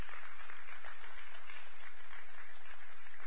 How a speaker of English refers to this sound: Youth and kids are going to go out today, so would y'all please clap for the youth and all the little kids and clap for the teachers. Teachers, thank you for volunteering.